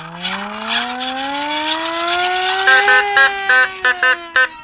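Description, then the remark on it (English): A siren winds up with a steadily rising wail over a few seconds, then cuts into a series of loud, choppy on-off blasts at a high, steady pitch. “is the siren ready to go? Well, sanitized and working.”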